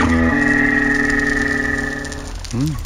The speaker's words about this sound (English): The more minke whales. This is an individual expressing himself.